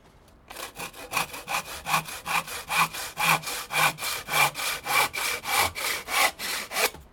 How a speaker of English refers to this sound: Right, I've just got to do a bit more sawing. Some days you get me shaving, other days you get me sawing.